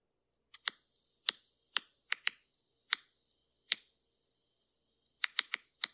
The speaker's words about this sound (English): You hear that? Yeah, is it like tapping? It's like clicking or like popping popcorn, they compared it to. Oh, it's a fast one.